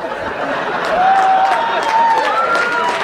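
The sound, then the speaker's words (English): An audience claps steadily for about three seconds, a dense, even patter of many hands, with a thin rising whistle-like tone drifting over the applause. “Don't clap him.”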